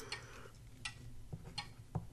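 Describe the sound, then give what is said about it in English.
A clock ticks steadily, its sharp clicks alternating in a tick-tock rhythm, several beats in a couple of seconds, alone over a low background hum. “That's a clock.”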